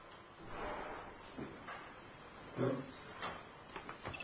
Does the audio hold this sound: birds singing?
no